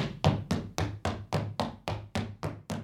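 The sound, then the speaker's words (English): A door thuds in a quick, steady series of about nine solid knocks, each with a short resonant decay, fairly loud, with no voices, as people leave a basement. “That was the door.”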